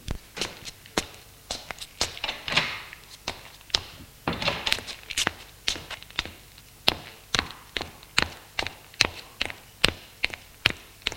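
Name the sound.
footsteps descending stairs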